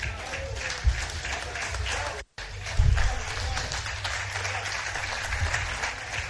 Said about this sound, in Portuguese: Jornalistas a aplaudirem José Peseiro, perdeu o jogo, ganhou o apoio da imprensa.